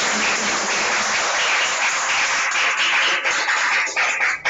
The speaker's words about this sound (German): Dann vielen, vielen Dank an dieser Stelle. Ein kleiner Applaus und ein großer.